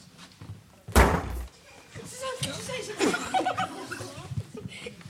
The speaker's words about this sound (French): Un enfant qui tape dans une porte. C'est ça, un coup sur une porte.